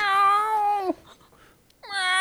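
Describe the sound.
A person imitates how the cat Ruby meows, an alley cat's howl: a long, loud, drawn-out yowl, a brief pause, then a second howl begins.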